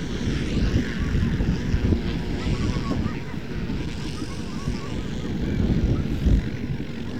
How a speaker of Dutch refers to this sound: En de helikopter. Die gaat er even door, die heeft zijn gas afgezet.